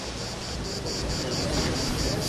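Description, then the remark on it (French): Cicadas sing in a shrill, high-pitched buzz that pulses rhythmically about four times a second, steady and fairly loud over a low, rushing wash of wind-like background noise, in Cannes, France, on the Mediterranean in July sun, during the film festival as festival-goers pass. “Voilà, comme ces cigales qui chantent sur le passage des festivaliers, les festivaliers en smoking ou robe du soir qui croisent les touristes en maillot remontant de la plage.”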